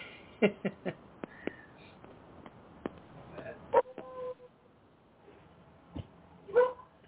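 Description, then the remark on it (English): A dog barks in a quick, irregular series of sharp yaps and short whimpering yips, moderately loud, with brief pauses between bursts and no talking over them. “Oh, boy, the dog's trying to make his point, too.”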